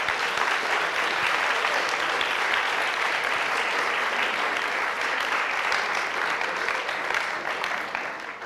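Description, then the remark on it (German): A large audience at a conference plenary session applauds a musician for his music, a dense wash of many hands clapping at an even loudness that holds for the whole stretch and tapers only slightly at the end. “Wir geben ihm doch wirklich gerade einen grossen Applaus.”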